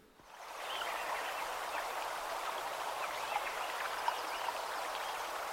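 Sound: stream flowing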